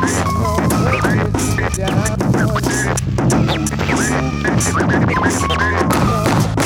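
Rapid turntable scratches zip up and down in pitch, choppy and rhythmic, over a loud, steady hip-hop beat with a heavy bass line. No one is rapping during the scratch break.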